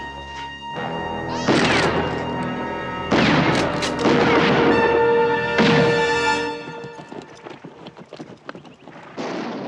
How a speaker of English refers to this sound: Nearby, Dylan hears the shots.